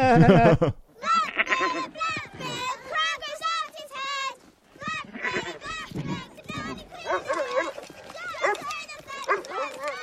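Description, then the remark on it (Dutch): A goat bleats again and again in wavering, quavering cries, loud and close, tangled with agitated shouting voices in a chaotic, tense scene. “Hoe heet die nou? Black Phillip, die geit?”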